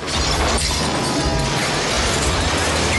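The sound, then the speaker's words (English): A bus in a low tunnel smashes through hanging lamps and parking meters and takes out a parked car: loud, continuous crashing, shattering glass and metallic clanging over a deep engine rumble, relentless, with no voices. “In a low tunnel, Victor's bus smashes hanging lamps, then through parking meters, and takes out a parked car.”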